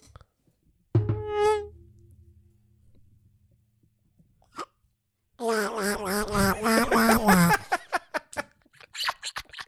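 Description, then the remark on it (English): A voice imitates a mosquito with a wavering, buzzy whine lasting a couple of seconds, fairly loud, after an earlier low droning hum and followed by scattered short clicks and breaths. “It's actually not a bad mosquito sound.”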